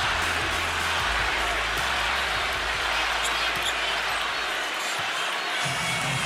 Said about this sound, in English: By the end of the half, the Orlando crowd was cheering for Irving every time he hit a shot.